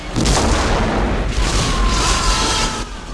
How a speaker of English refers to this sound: Explosions rip the bridge apart, flinging the unsuspecting Klingons through the air over the consoles. The conical bridge section at the center of the saucer is engulfed in a massive fireball.